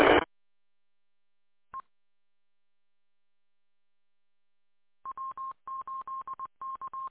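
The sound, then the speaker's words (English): Telephone keypad tones: one short beep, a pause, then a quick run of about a dozen clipped DTMF-style beeps in small rhythmic clusters, clear and fairly loud, with no talking. “Yeah, it sounds like a DTMF tone. It doesn't sound like it's a sine wave.”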